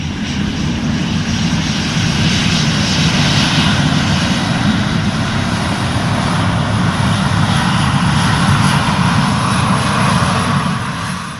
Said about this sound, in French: Aéroport de Roissy-Charles de Gaulle. Sur les pistes, le balai incessant des avions